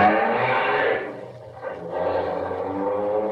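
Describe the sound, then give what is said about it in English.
A Bentley's engine roars steadily, eases off briefly, then surges again as it follows another car, loud with a rough, droning hum and rushing road noise. No one speaks. “Come on, faster, faster. Try and get around this car.”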